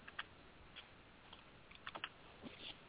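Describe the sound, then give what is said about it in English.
Quiet, irregular clicks of keys being typed on a computer keyboard, a few quick bursts of keystrokes with short pauses, fairly soft over a faint background hiss. “Yeah, typing something real quick.”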